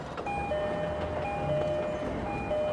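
A commuter train rolls by with a steady, loud rumble of wheels on track, overlaid with thin sustained whining tones, continuous throughout with no voices.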